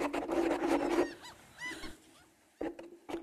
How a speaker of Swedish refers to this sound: Var det måsljud jag hörde?